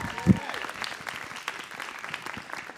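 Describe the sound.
An audience at a 9th anniversary storytelling show at Bumport Theater breaks into steady applause for two storytellers, a dense crackle of many hands clapping, with a brief louder thump at the start and some cheering voices mixed into the crowd noise.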